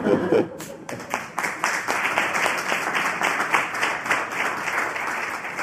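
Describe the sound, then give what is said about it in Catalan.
An audience applauds a guest speaker as he is introduced, with a dense, steady patter of many hands clapping, sustained for several seconds at a fairly even loudness, with no one speaking over it. “Per tant, no sé si he de dir alguna cosa més, que feu el favor d'aplaudir-lo, que és molt amic meu, perquè és molt bon professional.”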